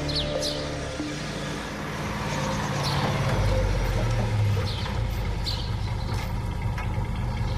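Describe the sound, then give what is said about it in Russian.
A Soviet tank's engine runs steadily on a road, a deep, loud rumble that swells slightly midway and holds, with faint mechanical clanks high above it and no voices. “Ist das ein Panzer? Sowjetischer?”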